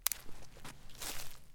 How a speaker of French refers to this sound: Devant mon campement, j'entends les pas d'un animal dans les feuilles mortes. La louve s'approche.